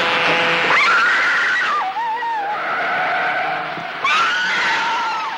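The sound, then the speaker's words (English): Loud, sustained tire screeching with wavering, gliding pitch as a car skids out of control on a highway in a rain downpour after the brake pedal is stomped, swelling again near the end as it slows and stops. “The car pitches from side to side. It rolls forward out of control, slows, then stops.”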